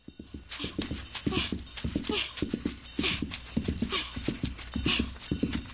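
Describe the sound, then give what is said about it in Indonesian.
Quick, steady hoofbeats of a calf running home on its own thud and clop, a busy rhythmic patter that keeps going throughout with no voices. “Ternyata anak sapi itu berlari pulang dengan sendirinya.”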